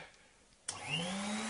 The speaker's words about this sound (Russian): А может, пойдешь в другую комнату, пока я тут буду пылесосить, а?